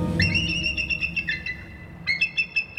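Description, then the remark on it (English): A young bald eagle gives a series of high, thin, whistling chirps in two bursts, the piping notes stuttering rapidly over a low rumbling background. “Until then, young bald eagles are varying shades of mottled brown. I'll bet this youngster's getting the lay of the land, your lakefront neighborhood included.”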